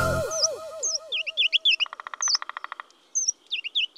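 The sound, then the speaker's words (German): Birds chirp and tweet in a busy forest chorus, with a short burst of rapid, evenly spaced woodpecker knocking partway through. No one speaks. “Ja, da zwitschern die Vögel. Ein Specht klopft man noch mal zwischendurch.”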